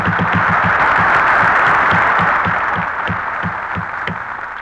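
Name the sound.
applause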